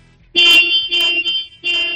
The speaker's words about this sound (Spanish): Dale tres veces a ese claxon, David, a ver cómo suena.